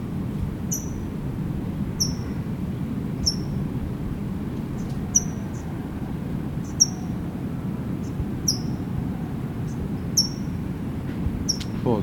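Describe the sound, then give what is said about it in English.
A towhee in a holly gives sharp, high chip calls, one every second or so, around ten in all, each brief and clear above a steady low rumble of background noise. “That's a Tohi chipping.”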